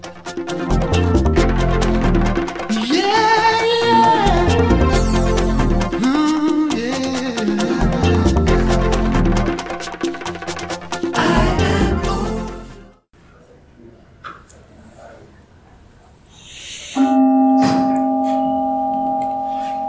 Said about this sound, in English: And so with the mindfulness bell, we practice the art of stopping.